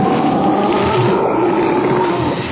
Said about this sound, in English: Blimey! It's a bloomin' sea monster!